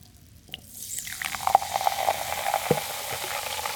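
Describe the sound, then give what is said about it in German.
Champagne is poured from a bottle, then a steady crackling fizz builds and holds, dense with tiny popping bubbles. No one speaks. “Dann nehme ich jetzt heute mal die erste Flasche ins Maul und schenke ein.”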